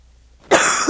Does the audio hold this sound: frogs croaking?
no